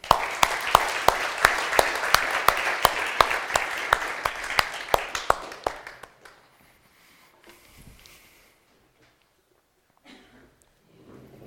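An audience applauds with a dense, steady burst of clapping and a few sharp louder claps standing out, lasting about six seconds before it stops abruptly, leaving faint scattered noises.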